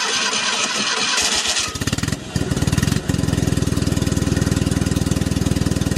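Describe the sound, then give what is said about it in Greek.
A small air-cooled, rear-drive Fiat 500 engine cranks and catches, then settles into a steady, rapid, throbbing idle with a dense, rattly low pulse, loud and alone with no voices. “Ένα αυτοκίνητο εξαιρετικό, ένα αυτοκίνητο αερόψυχτο με την κίνηση πίσω.”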